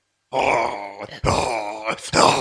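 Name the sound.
voice imitating loud snoring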